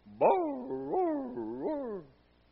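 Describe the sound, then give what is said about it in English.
A neighbour's basset hound in Iowa bays about six feet away, a few sharp rising barks running straight into a long, wavering howl that fades out after about two seconds, with no other sounds around it. “Oh, my word, that basset hound. He would just bark and he would howl.”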